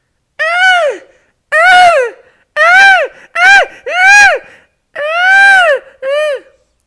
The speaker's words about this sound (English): That is the inevitable sound of seagulls getting jiggy on your window. Oh yes, it did happen. I'm not happy about it. Basically, I have a skylight window in my flat, and 7 o'clock every morning